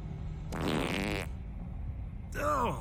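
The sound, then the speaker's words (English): A loud, buzzy fart from a woman lasting nearly a second, sputtering over a low background rumble, then a short burst of someone speaking. “She farted in the Batmobile.”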